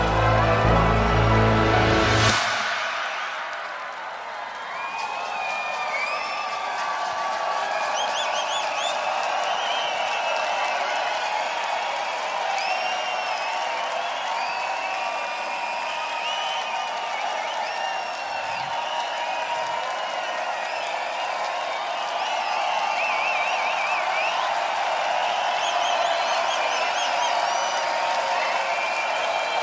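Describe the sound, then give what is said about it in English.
A concert crowd at the Lowlands festival roars with steady cheering and applause for nearly half a minute, with shrill whistles rising over the noise, following a brief burst of music at the start. “I said if you feel the energy in the air tonight, make some noise.”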